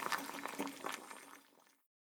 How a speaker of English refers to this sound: I can hear the water in the saucepan. It sounds noisy.